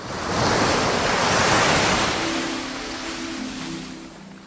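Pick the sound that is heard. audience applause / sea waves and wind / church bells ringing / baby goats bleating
sea waves and wind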